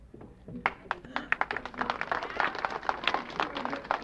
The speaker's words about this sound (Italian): Grazie molto dell'applauso, ma penso che occorra innanzitutto salutare e applaudire di bel cuore i poeti, che sono i veri protagonisti di questa serata.